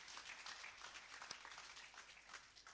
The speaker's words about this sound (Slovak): Môžeme dať potlesk Pánovi za to, bratia a sestry. Halelujá.